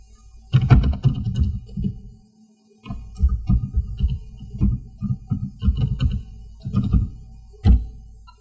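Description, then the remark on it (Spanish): Irregular bursts of keyboard typing as login credentials are entered to connect over RDP to a domain controller virtual machine, with muffled clicks and low thumps, a brief pause after the first flurry, then more steady keystrokes. No one speaks. “Vamos a escribir las credenciales.”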